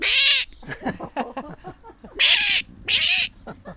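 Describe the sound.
A person mimics a jay's harsh, raspy screech, three loud grating calls, one at the start and two close together near the end, with softer voiced sounds in between.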